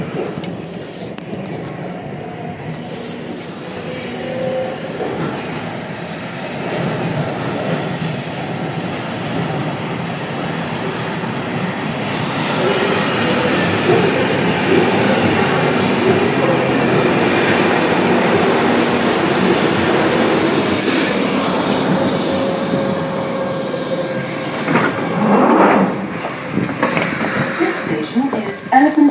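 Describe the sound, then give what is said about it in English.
A steady, loud rumble of an underground train that terminates at Tyburn running through a tunnel, with rattling wheels and metallic screeches that swell toward the middle and stay continuous throughout. “Change here for Bakerloo Line and Main Line Suburban Rail Services. This train terminates at Tyburn.”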